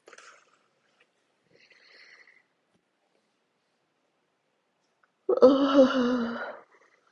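yawn

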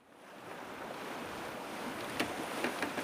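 ocean waves and wind

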